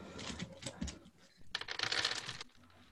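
Dice clatter and tumble across a hard surface in two bursts, a scattered rattle first and then a denser, louder skittering roll that settles after about a second, the dice ending up under a computer.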